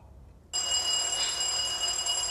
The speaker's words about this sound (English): At the sound of the doorbell, they share a look.